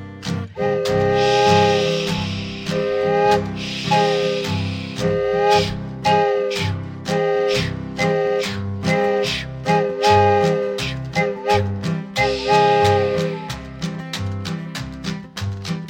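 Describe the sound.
An imitated steam train gathering speed: loud chugging that grows quicker and denser, punctuated by repeated bending, wailing whistle tones. No talking.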